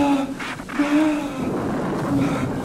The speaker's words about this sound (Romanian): Dar ce se aude? Nu vezi? Ce? Soarele a dispărut, cerul s-a întunecat, vântul cam suflă.